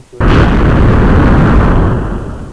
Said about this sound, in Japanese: そのさ、爆発の音さ、カオスフレアの爆発音にしたら。